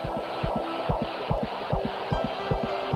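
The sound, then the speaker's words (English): A fast, steady fetal heartbeat, found by a doctor during a prenatal check, pulses through a Doppler monitor, about two and a half beats per second, each thump wrapped in a whooshing, swishing hiss that carries on without a break. “Finally, the time has come. The search for the heartbeat.”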